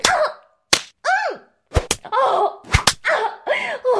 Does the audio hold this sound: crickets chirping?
no